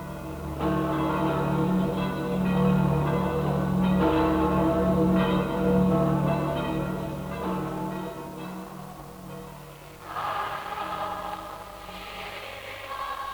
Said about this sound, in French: Cloche à Saint-Pierre de Rome.